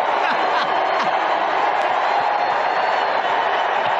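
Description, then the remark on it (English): A large crowd, during an invocation supporting the nomination of Hillary Rodham Clinton, roars continuously for several seconds, a dense wash of cheering and scattered shouts mixed with booing, no single voice standing out, holding steady and loud throughout. “And they're desperately trying to find the people who are cheering and not booing in the crowd, and she's sitting there going, oh, this was a bad one.”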